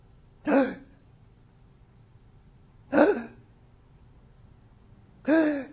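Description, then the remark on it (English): A person imitates gasping, agonal breathing: three sharp, voiced gasps spaced a few seconds apart, each short and fairly loud, with quiet pauses in between and no talking. “So every breath is like a gasp. And it's usually what we call an agonal breath, which means that a person is getting ready to die.”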